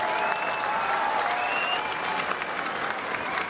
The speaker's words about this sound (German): Als Franziskus erklärt, er biete für ein solches Treffen seine Räume im Vatikan an, gibt es spontan Applaus von denen in Bethlehem, die seinen italienischen Worten folgen können.